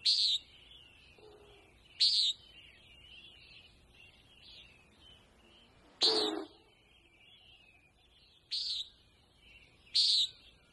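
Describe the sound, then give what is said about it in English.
Common nighthawk calls, given in flight by several displaying males over sagebrush habitat on a ridge south of Malheur National Wildlife Refuge in eastern Oregon, about half an hour after sunrise: five short, loud, nasal buzzy notes at a high pitch, spaced a couple of seconds apart over a faint, quiet background with no talking. “The sun hadn't been up very long, maybe a half an hour, and there were nighthawks up in the air, several males displaying.”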